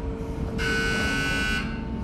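A railway transfer table's warning buzzer in a railway rolling-stock workshop sounds once, a loud, steady electric buzz lasting about a second, over a continuous low mechanical rumble, announcing the movement of a railway car from track 16 to track 7.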